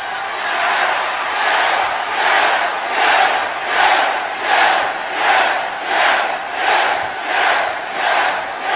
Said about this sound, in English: You hear that? The reason they cheer for him is because he works and he earns it.